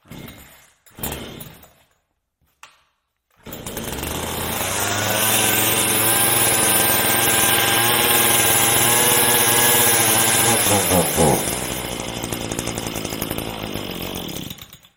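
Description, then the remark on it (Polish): A petrol Makita EA4300F Farmer chainsaw sputters through a couple of short pull-start attempts, then catches and roars steadily with a strong harmonic whine, revving briefly near the end before idling down. “Była spalinowa Makita EA4300F, oznaczenie Farmer.”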